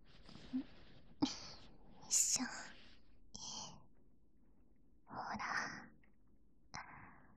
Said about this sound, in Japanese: こんくらい近づくと、あたしん吐息も感じらるんやろ？息がかかるんも気持ちよかね。耳かきとか、ぼんてんとは違った気持ちよさ。